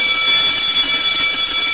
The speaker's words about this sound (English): Then the bell rang for lunch at 11:45,